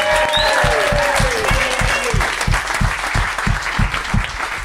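A crowd applauds loudly and steadily, with a regular pounding beat of thumps running underneath and a few rising whistles or cheers near the start.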